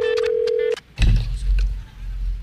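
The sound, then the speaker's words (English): A steady telephone tone sounds through a phone line for under a second during a call to a place called the Pantry, then cuts off and gives way to a burst of low, muffled rumbling and line noise. “We're calling the world famous pantry.”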